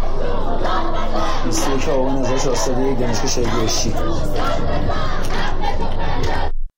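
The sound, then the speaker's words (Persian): A crowd of students at Beheshti University in Iran, during nationwide student protests, chants the slogan 'Student, shout, scream for your rights' in loud, rhythmic unison, voices rising and falling together in steady repeated phrases that continue without pause until the sound cuts off abruptly. “در دانشگاه بهشتی گروهی از دانشجویان شعار دانشجو داد بزن، حق تو فریاد بزن سر دادند.”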